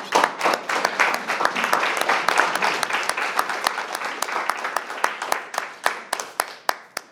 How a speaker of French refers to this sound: Je considère ce livre, Le cri du Falcon, aussi important que le rapport Duclert et je vous propose surtout d'applaudir l'auteur qui est dans la salle. Je vous remercie.